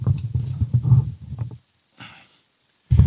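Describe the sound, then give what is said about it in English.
A loud fit of rough coughing in rapid bursts for over a second, then a brief pause with a sharp breath in, and another cough starting at the end. “We're gonna keep using this mic till we know I'm not gonna cough.”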